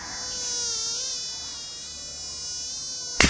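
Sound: mosquito buzzing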